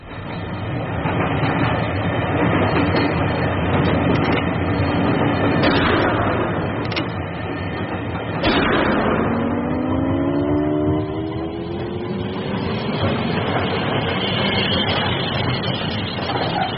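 A train running on tracks: a loud, steady rumble with sharp rattling clicks throughout. Partway through, a tonal whine glides upward and then fades under the noise.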